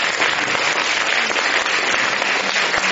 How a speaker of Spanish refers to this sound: ¿Le damos un aplauso al Señor que me habla aún cuando no esté?